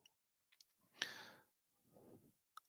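A few sharp computer mouse clicks as someone clicks on the wrong screen, a quick pair near the start and a lone one at the end, separated by soft breathy exhales and a short rustling burst.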